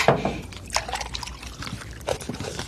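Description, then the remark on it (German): Milk is poured into a glass in a steady, gurgling stream, with splashy bursts and a slight rise as the glass fills. No one speaks. “Hier, dein Glas Milch, wie gewünscht.”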